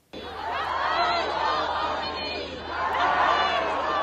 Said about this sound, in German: Jubelnde Menschenmengen im Iran, sie feiern ihren neuen obersten Anführer Mojtaba Khamenei.